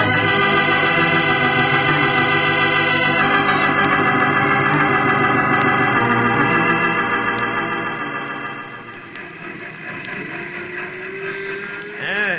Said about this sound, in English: comes that train onto the siding